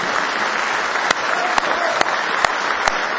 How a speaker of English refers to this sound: Somebody say praise the Lord. Give Him one more hand clap of praise tonight.